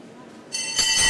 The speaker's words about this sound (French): Vous entendez la cloche retentir.